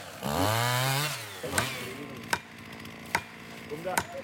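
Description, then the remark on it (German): A chainsaw engine revs up and winds down for about a second as a man fells a 33-meter tree, followed by several sharp, spaced-out knocks and cracks, like wood splitting or being struck. “der Mann mit Kettensäge und dem Gefühl fürs Grobe, behält einen klaren Kopf.”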